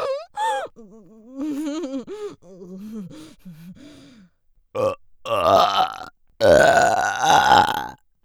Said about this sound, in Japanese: 出ちゃった。いっぱい出しちゃった。もう取り戻せないのに。快感優先した。自らゲップこいちゃった。